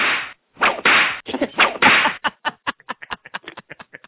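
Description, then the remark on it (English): A wrong-answer sound effect: loud, harsh noisy bursts for about two seconds, then a rapid run of around fifteen short, sharp snapping clicks, with no talking. “I like this one for getting it wrong better.”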